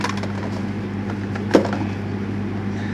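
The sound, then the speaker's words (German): Food drops onto the floor with a single short, muffled thud midway through, over a steady low mechanical hum with no talking. “Das war mein Essen, ist runtergefallen.”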